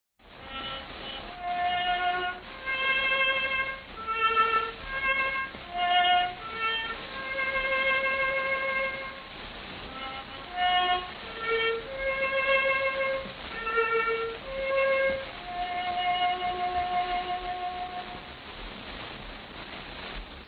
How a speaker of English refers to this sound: Bugle call of the covered wagon trains fades away among the echoes